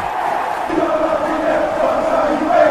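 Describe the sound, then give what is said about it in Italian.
A large crowd chants and roars together in a steady, dense wash of many voices, with sustained tonal swells rising slightly louder toward the end. “Filippo, sembra di essere proprio allo stadium.”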